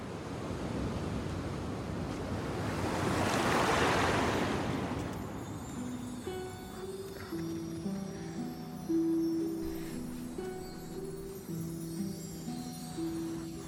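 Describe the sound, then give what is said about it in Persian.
A wave swells and crashes onto the shore at a surfing spot whose water gives a view of the houses on Cliff Top Drive. It does so in the first few seconds, then settles into a softer, steady wash of surf with a faint droning hum beneath it. No one speaks. “میخواستم امروز روی اون موجا باهات موج سواری کنم، چون وقتی توی آب اینجا روی تخته هامون نشستیم بهترین دید رو به خونه‌های کریف تاپ درایو داریم.”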